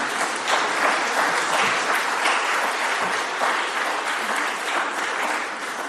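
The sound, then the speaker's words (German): A church audience bursts into sustained applause to welcome a child into the audience, dense overlapping claps that hold steady and loud throughout, with no voices standing out. “Ich glaube, da müssen wir mal alle klatschen.”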